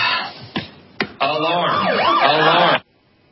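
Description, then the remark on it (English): A wailing siren sound effect rises and falls in pitch over a couple of seconds, loud and continuous, preceded by two sharp percussive hits, then cuts off abruptly into silence. “I don't mean to sound the alarm, but...”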